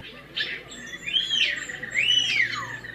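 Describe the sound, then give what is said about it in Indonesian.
Bali myna (Bali starling) calls, a species trained for release into the wild: a brief harsh burst followed by two loud, rising-and-falling whistled calls, clear over a faint steady background hum, with no voices. “Salah satu spesies yang dilatih untuk dilepas liarkan adalah Mina Bali atau Beo Bali, yang merupakan koleksi di sebuah rumah pedesaan.”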